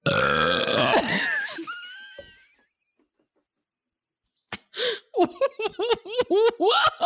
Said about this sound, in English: I've never heard you burp like that before. Hey, it's been a while since I've had the old seltz.